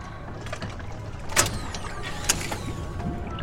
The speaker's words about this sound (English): She yanks on the gear shift, then turns the keys in the ignition.